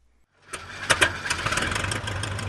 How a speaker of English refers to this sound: Brian Watts takes to the skies in a tiny four-seater airplane.